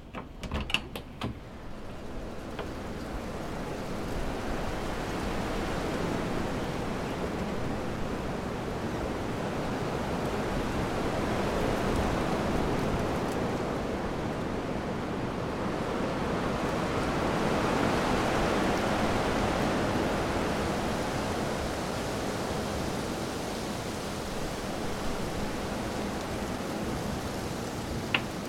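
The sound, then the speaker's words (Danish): A steady roar of storm wind rushing through forest trees, heard through the opened door of a site trailer on 19 April 2013, a little after 6 in the evening; it swells and eases in long gusts for about half a minute. A few faint knocks at the start, and no voices. “Jeg prøver lige at åbne døren ud, så man kan høre skoven.”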